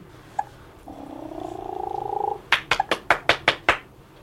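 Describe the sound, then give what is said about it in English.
A woman makes a rolling purring sound with her voice for about a second and a half, then claps her hands about seven times in quick, even succession, sharp, to get a baby to look up. “comes in to help out, first purring and then clapping so the baby will look up.”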